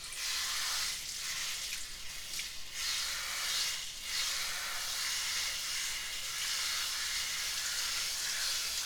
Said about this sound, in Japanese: このシャワーの音しっかり聞いてみて。